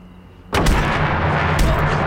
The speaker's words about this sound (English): Suddenly, Jim appears and slams the door repeatedly on Dean's crouched form.